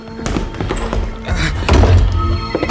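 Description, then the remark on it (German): A door opens with a heavy thunk, followed by a few dull knocks and rattles, with no voices. “Und jetzt los! Tür auf!”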